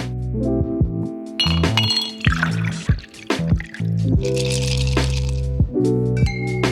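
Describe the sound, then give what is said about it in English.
A beverage is poured into a glass, with a few bright clinks and a splashy fill, over a steady musical bed and no talking. “So lower the lights, grab your favorite beverage, and join your host,”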